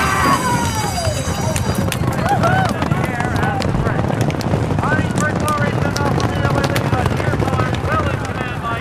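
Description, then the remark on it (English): Galloping racehorse hoofbeats from two horses running side by side down the stretch of a race pound steadily throughout, a dense, rapid drumming with rough wind noise and indistinct voices calling in the background. “I can hear the footsteps of my horse, the footsteps of his horse.”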